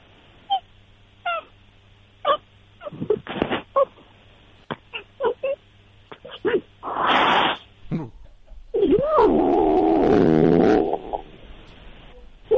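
A female cat being petted makes a short, raspy growl among scattered clicks and handling noises, then lets out a long, wavering, drawn-out meow that rises and falls before trailing off.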